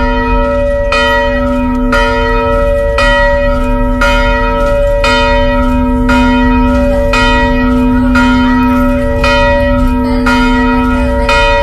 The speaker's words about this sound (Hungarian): Ünnepre hív a harangszó Vizsolyban